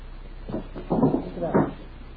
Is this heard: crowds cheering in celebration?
no